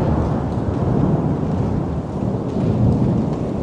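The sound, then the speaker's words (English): Steady, dense rain pours down with a deep rumble of thunder rolling underneath, loud and continuous throughout with no voices. “So let's go back a few steps to the point where it first rains.”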